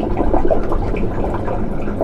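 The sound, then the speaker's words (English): Meltwater flows in a steady trickle over a huge mass of ice, with small drips and gurgles scattered through the continuous wash of water. No voices, just the running liquid throughout. “Seeing and hearing all this water move around up here really brings home that I'm standing on a massive source of future sea level rise.”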